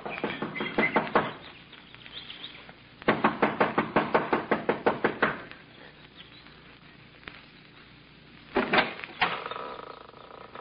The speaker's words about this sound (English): runs up the steps of the lodge to the front door. She knocks impatiently, looking about anxiously.